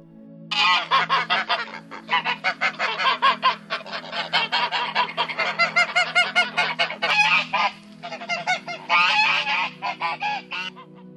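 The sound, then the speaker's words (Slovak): A flock of geese in a pen cackles and honks loudly and continuously, their harsh overlapping calls filling the scene with only brief pauses, over a steady low hum. “Husi prezradili jeho ukryt svojim silným gáganím.”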